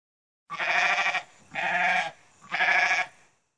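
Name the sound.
baby goat bleating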